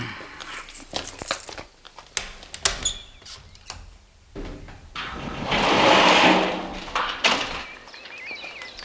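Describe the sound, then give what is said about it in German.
A camper van door is unlocked with a series of sharp metallic clicks and rattles, then slides open with a loud, drawn-out rumbling scrape that fades into softer clunks. “Also, das wird ja auch endlich mal Zeit, dass Sie aufschließen.”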